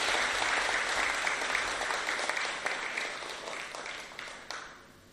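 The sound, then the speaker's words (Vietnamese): A crowd at Giác Ngộ pagoda applauds steadily in the evening to honour 153 university and college students receiving scholarships, a dense wash of many hands clapping at once that holds strong for several seconds and then thins out, with a few scattered final claps as it fades. “Xin một tràng vỗ tay thật lớn để tán dương chung.”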